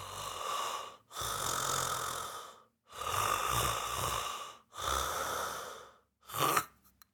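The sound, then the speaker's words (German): A person imitates loud snoring, showing how the tongue falls back into the throat and the airway collapses: four long, raspy rattling breaths in a steady rhythm, then a short choked snort that cuts off abruptly into silence. “Es war also irgendwann am Anfang vibriert es noch und irgendwann klappt der Atemweg zusammen wie so eine weich gekochte Nudel.”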